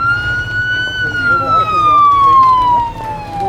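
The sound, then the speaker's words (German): A fire engine siren holds one loud, steady wailing tone that slowly glides downward in pitch over a few seconds, with a low engine rumble underneath. “Macht Platz für die Feuerwehr!”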